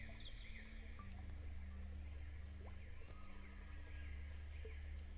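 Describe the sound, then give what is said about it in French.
Faint birdsong, with scattered chirps and short trills drifting over a steady low hum of outdoor ambience, continuing throughout without any voices. “Les oiseaux chantent.”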